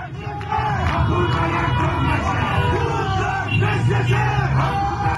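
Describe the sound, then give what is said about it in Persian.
A loud crowd chants and shouts in the streets of Punak, Tehran, many voices blending into a steady, continuous roar with raised yells rising above it throughout. “بله، مردم در پونک تهران به خیابان ها ریختن.”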